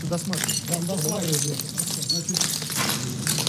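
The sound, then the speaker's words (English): Footsteps crunch over shattered glass as Crimea head Sergei Aksionov tours Kerch Polytechnic College, site of a mass shooting and explosion; a steady run of sharp, bright clinks and crackles, with voices murmuring underneath throughout. “Stepping in shattered glass, Crimea head Sergei Aksionov toured Kerch Polytechnic College where the mass shooting and explosion happened.”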